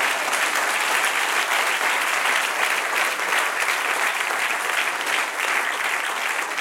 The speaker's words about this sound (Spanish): Va a dar un aplauso, Señor.